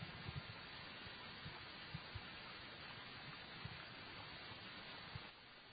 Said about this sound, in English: Well, actually, it's not entirely silent. It's I hear some water. It's not really raining. It has rained. There's a threat of rain. Oh, here we go. Across the street, there's actually a little stream. That's what I was hearing.